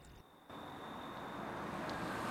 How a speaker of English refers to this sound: It's sunset, and Pete's sitting at the table in his cabin when the sound of a car engine makes him turn to face the door. Outside, Rachel gets out of her car.